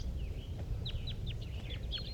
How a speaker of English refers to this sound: These are wild birds calling. There's a wild bird sitting in the top of the dead pine here.